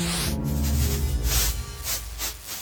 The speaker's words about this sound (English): So let me unplug that from the filter. I'll run that into Aurora. Cause that always sounds cool. Oh. Put you back in the submix. I love that you can, like, pitch bend the reverb.